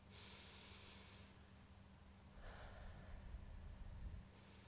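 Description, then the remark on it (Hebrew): A slow, deep breath drawn in through the nose, soft and airy, followed by a longer, fuller breath a moment later, during a guided relaxation exercise. Quiet, with no talking. “אז בואו ניקח נשימה איטית ועמוקה.”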